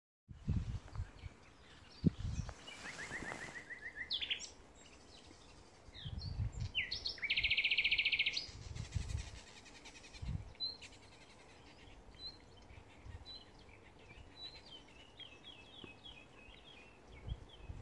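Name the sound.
birds singing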